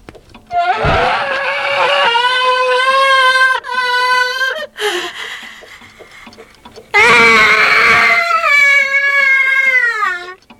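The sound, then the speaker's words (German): A grandfather clock in a room full of electric clocks lets out a loud, shrill scream, wavering and sustained, then breaks off briefly before a second long, piercing scream; alone, with no talking. “Hört mal, was die Standuhr kann.”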